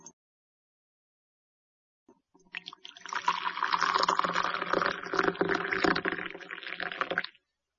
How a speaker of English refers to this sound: Let's make tea. First, put some tea in a cup. Then, put some boiling water in the cup.